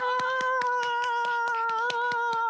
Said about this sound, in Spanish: ¡Aplausos, por favor!